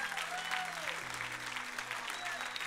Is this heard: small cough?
no